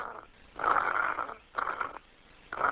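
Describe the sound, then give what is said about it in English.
Heavy, raspy breathing from a caller on an emergency call made from a cell phone comes through a muffled, tinny phone line, with loud rhythmic inhales and exhales repeating roughly every second. No one speaks. “But what Haley heard on the other end of the line was heavy breathing, nothing else.”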